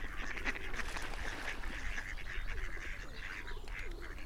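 Several birds squabble noisily over a large piece of bread, with overlapping squawks, honks and quacking calls running continuously, over a steady outdoor background with no talking.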